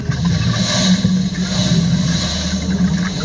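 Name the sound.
boat engine revving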